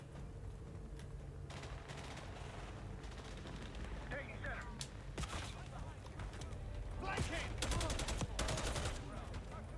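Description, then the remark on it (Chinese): Video game gunfire, shooting through a wall, crackles in repeated sharp bursts over a dense, rumbling background, with several volleys clustered near the end and a voice talking underneath. “有人打我咩？冇啊！喂，唔系，哇，屌，个吓喺边度打出嚟噶？穿墙啊，大佬！”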